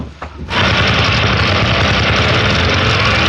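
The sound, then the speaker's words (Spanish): A motorcycle engine starts up after a brief quiet moment and then runs steadily and loudly with a dense, rumbling idle. “Espero que sepas conducir esta motocicleta”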